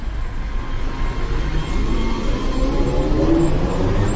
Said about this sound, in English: Next stop, Teplice, something of a homecoming for me. I lived here back in 1993. The sound of the trolley buses brings back fond memories of an idle summer in North Bohemia.